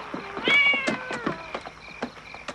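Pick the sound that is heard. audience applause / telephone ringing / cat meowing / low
cat meowing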